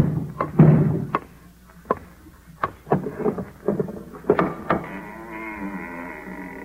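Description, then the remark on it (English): Around eight sharp, hard knocks on a door by the mayor, spaced irregularly over several seconds, each one short and loud against a low, steady murmur of background sound. “Go within. The mayor knock.”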